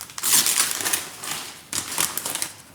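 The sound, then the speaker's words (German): Crinkling plastic packaging being unwrapped from a present, a dense run of bright crackles and rustles in two bursts with a brief lull between, fairly loud with no voices. “Mega unangenehm, das Knistern hier.”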